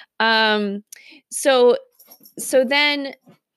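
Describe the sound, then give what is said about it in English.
A dog whimpers in three drawn-out, high whining cries with short pauses between them, loud and clear with no one talking over it. “she's never this obnoxious. So she's just doing it for this podcast. So welcome. You get to meet my dog, Daisy.”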